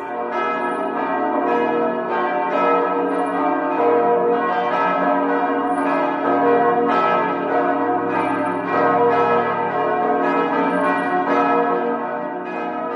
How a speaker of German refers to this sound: Auch das ein ganz eigener Klang. So hören sich die Kirchenglocken von St. Ägidien an.